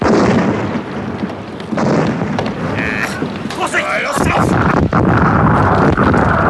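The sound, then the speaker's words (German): A swivel gun cannon on a sailing ship fires a full load into the rigging of a fleeing ship during a chase at sea, with heavy, rumbling booms in a dense, continuous roar of low noise, while voices shout over the din. “Korporal, die Drehbasse laden und richten. Drehbasse laden! Richten!”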